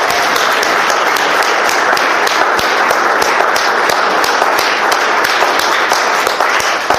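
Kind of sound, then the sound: crowd, audience clapping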